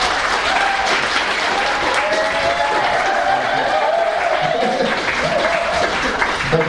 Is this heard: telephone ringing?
no